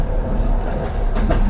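A steady, heavy low rumble of a train rolling along the tracks, continuous, with faint rattling and a brief higher hiss near the end.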